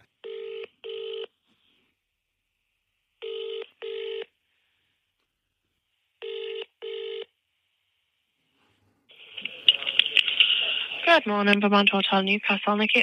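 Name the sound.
telephone dialing and ringing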